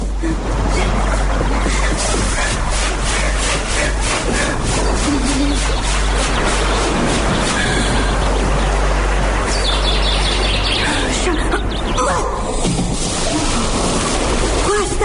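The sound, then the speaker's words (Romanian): A pig's body is thrown into water with a heavy splash, followed by sloshing and churning, with faint birdsong in the outdoor background throughout. “Corpul de lichid, porcul ăsta aruncat în apă, a dispărut.”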